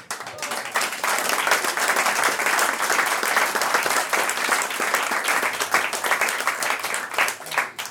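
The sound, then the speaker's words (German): Sustained audience applause at the end of an evening of music, many hands clapping densely and steadily for the full stretch, loud, with no talking over it. “sagt dann recht schön Dank fürs aufmerksame Zuhören und für den Applaus.”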